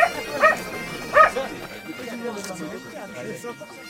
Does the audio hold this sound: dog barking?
yes